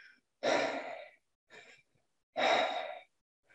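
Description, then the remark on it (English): Two loud, breathy chest-breathing inhalations during a breathing exercise, about two seconds apart, each sharp at the start and fading out. A softer, shorter breath falls between them. No talking. “And so as you're breathing, I want you to just try doing some chest breathing first.”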